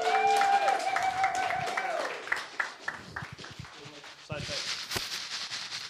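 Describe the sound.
An audience breaks into applause, scattered claps building into a steady, fairly loud patter, with some voices and cheering mixed in at the start.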